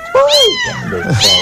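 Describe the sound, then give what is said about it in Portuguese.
A cat meows loudly, two drawn-out, wavering cries in quick succession with a slight pause between them, no one speaking. “eu não sou obrigado a aguentar esse barulho sozinho, não. Então vocês vão fazer parte todo dia até vocês conseguirem me ajudar pra arrumar os donos desse gato.”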